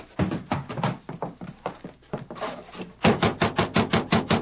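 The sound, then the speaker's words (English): Scattered hollow thumps give way to a loud, rapid run of evenly spaced knocks on the door of a ranch house at Rancho Martinez, about eight blows in quick succession, made by riders who have just arrived on horseback. “They quickly hitched their horses and knocked on the door.”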